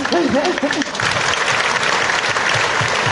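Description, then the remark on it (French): A dense wash of audience applause for a singer who has just sung two songs, at a round table on women's work and financial autonomy recorded 12 June 2010 at Montreuil town hall. Steady and loud throughout, with a voice briefly speaking over the opening moments. “Et je trouve qu'on peut l'applaudir aussi.”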